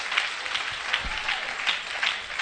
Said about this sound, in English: You can clap your hands.